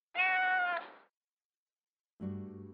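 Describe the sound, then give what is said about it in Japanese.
Two cat meows from a cat in a park, separated by a short silence: a bright, drawn-out first call, then a lower, rougher second one, both clear with no talking. “ふと気がつくと、風景に溶け込むように猫がいた。”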